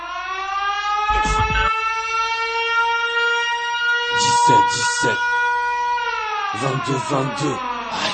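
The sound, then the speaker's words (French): A rap track opens with a steady, wailing siren tone that slowly dips in pitch, broken by three short bursts of voices over it; no drumbeat has kicked in yet. “Maintenant, on va écouter un petit morceau de musique.”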